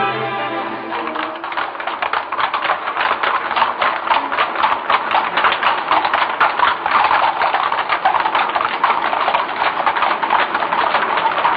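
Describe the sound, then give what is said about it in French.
Hooves of a horse pulling a carriage clip-clop steadily on a cobblestone street in Paris, a brisk, even rhythm of sharp taps that carries through the whole stretch, clear, with a soft tonal hum underneath at the start. “le ballon rouge va le suivre partout dans les rues de Paris et défile sous nos yeux, tel un inventaire à la Prévert, de vieilles affiches de music-hall, des rigoles d'eau au milieu des pavés, une péniche, une voiture à cheval.”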